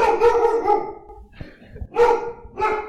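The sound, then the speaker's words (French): A dog named Zouzou barks at a car it has seen, in three drawn-out, harmonic bursts, the first long and wavering like a half-howl, followed by two shorter loud barks after a brief pause, with no talking. “C'est Zouzou, on vous présente Zouzou. Il a vu une voiture.”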